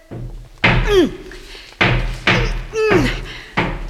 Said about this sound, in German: Ich brauche irgendetwas Langes. Ein bisschen. Vielleicht, wenn ich mit dem Stiel gegen die Luke klopfe.